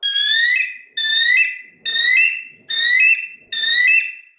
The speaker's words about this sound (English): At last, he heard an eagle cry overhead.